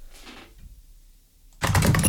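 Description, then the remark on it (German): After a near-silent stretch with a faint rustle, a loud, dense burst of rapid key clatter bursts in and continues to the end, like fast typing on a keyboard or typewriter. “Tippen, Tasten, Funken, Radio.”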